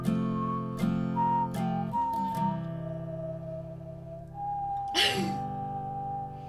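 A whistled theme tune melody glides over a steady, low musical backing, holding long pure notes with small pitch steps, and a brief noisy burst cuts in near the end.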